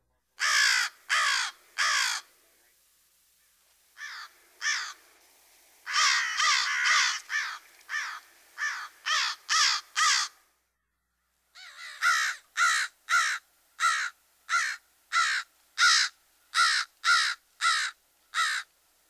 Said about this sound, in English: While the raucous caw, caw is typical, the crow has an extensive repertoire, including rattles and clicks. Here's the familiar vocalization again.